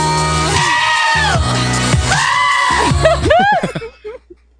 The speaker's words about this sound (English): Remember when that was a thing? Remember that? Oh, the goat.